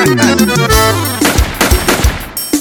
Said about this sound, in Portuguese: Ou é tiro ou é alguém batendo na porta aí? Olha o tiro.